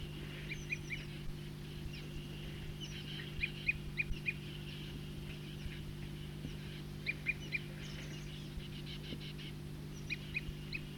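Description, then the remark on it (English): A bird gives repeated short, high tooping calls in uneven bursts, clear and fairly loud over a steady low hum of background noise, with no one speaking. “Start recording the tooping again. Same bird.”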